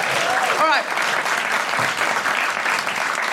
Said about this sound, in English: Big round of applause